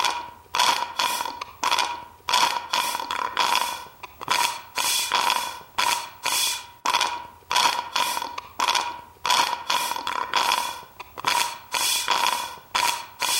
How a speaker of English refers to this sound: Maybe after we record this, I'll put it together and we can have a little drum beat right here of your slurping. Cue the drum beat.